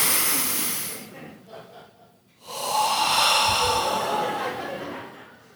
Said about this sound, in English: And so I'll come out next Sunday and I'll say, hey, before we read Isaiah, before we get into God's word, let's take a deep breath together.